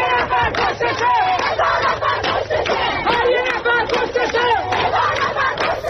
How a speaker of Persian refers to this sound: اینجاست که آدم یاد شعاری می‌افته که بچه‌های دانشجو همین دیروز تو دماوند می‌دادن.